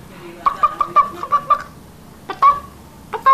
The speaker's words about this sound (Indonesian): Itu ayam apa yang itu? Yang mana? Ya, tadi jadi ayam apa? Ayam betina.